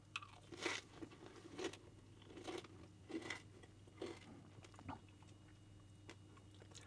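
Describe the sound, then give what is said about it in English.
Crunchy chewing of a bite of amaranth caramelized with maple sugar, topped with nasturtium and a mixed berry sauce: a steady series of about seven crisp bites spaced roughly half a second apart, fading out near the end, with no one talking. “I love how crunchy that amaranth gets.”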